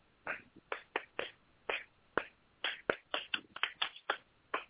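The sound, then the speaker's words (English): Hand clapping as a group warm-up exercise, in a loose rhythmic pattern, about fifteen sharp claps that start spaced apart and quicken into tighter bursts toward the end, with no talking. “you go ahead and do a clapping where you go.”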